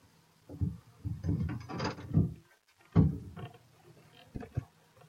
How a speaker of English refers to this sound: try the door again.